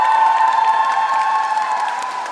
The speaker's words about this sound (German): Wer von euch hat Bock auf die Eurovision? Und alle, die mit nach Dortmund kommen, mach mal einen fetten Applaus!